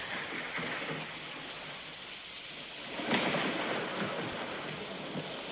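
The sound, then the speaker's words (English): Steady rain hisses throughout, with a low rumble of thunder swelling up around the middle and slowly rolling away. No voices, just the storm, constant. “What about thunderstorm?”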